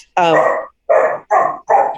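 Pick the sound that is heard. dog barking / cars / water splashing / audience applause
dog barking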